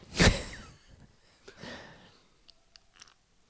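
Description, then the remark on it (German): A loud, noisy exhale opens, followed by a few softer breaths and small mouth sounds, with no one talking. “Uke hört man atmen.”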